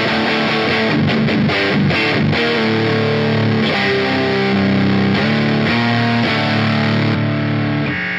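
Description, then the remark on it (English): A heavily fuzzed electric guitar, played through an Infidel fuzz pedal on a 'crush' setting, plays a few chords and sustained notes, thick and saturated with a wild, buzzy edge, loud throughout with no talking. “My crush setting is the setting that has my Infidel fuzz on it, so it's a little wilder sounding.”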